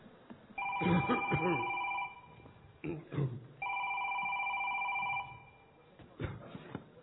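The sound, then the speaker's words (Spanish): A cell phone rings twice, each a steady electronic trill lasting over a second, with a short pause between. Voices murmur underneath and in the gap, all slightly muffled and boxy. “Dejé el celular, mira dónde estaba. A ver quién es.”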